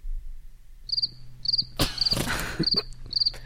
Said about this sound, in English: Huge day for our cricket orchestra in our audience.